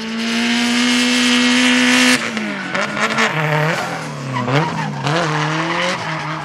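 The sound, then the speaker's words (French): Lightweight drift cars on slick tires skid at a European drifting championship round at the Lignières circuit, with loud, sustained tire squeal, first a steady high screech, then wavering, pitch-sliding squeals as engines rev, intense with no talking. “Voiture allégée, pneus slick et dérapage.”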